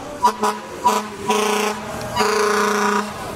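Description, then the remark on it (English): A Buffalo fire truck going by sounds its air horn in a few short blasts, then two long sustained honks, loud, with a rumbling engine and street noise underneath. “A Buffalo fire truck going by, honking, I assume, in show of support.”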